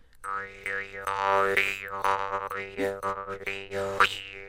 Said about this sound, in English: So you've got, looks like, at least three jaw harps there. Are they in different keys? They are. I've got one in G. I played the D one, which is a very low one, and then I've got one in A.